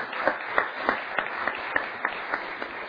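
An audience applauds for a fourth grader receiving her Bible, a dense wash of clapping with sharper claps standing out at a steady, regular beat, moderately loud and without any voices.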